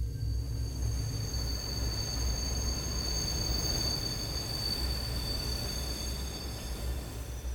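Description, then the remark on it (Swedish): A train rolls along railway tracks beside a forest in the dark, with a steady, heavy low rumble and a thin high-pitched whine over it, continuous throughout, with no voices. “Helt säkert så visste var och en av oss att det var ett tåg vi hörde och blickarna föll mot skogen och träden som skymde delar av tågbanan.”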